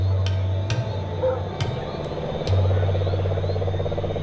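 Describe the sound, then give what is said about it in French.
Cane toads calling during mating season in a steady low trill, a continuous pulsing drone that fills the background, with a few sharp clicks and taps scattered over it. “Avec la bénédiction des crapauds buffles pendant la saison des amours.”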